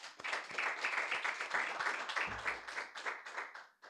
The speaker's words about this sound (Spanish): Y como dice la iglesia, hermanos. Amén. Vamos a dar palmas al Señor, hermanos.